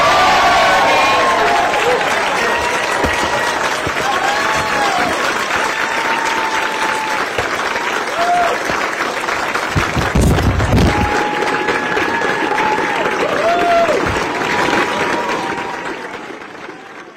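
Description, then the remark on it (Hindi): A large crowd, the expanded Labor caucus in Canberra, applauds loudly and steadily for about seventeen seconds for Australia's Prime Minister and Labor leader Anthony Albanese, with scattered cheers and whoops rising above the dense clapping before it begins to fade at the end. “Okay, for this hugely expanded Labor caucus, let's give it up for Australia's Prime Minister.”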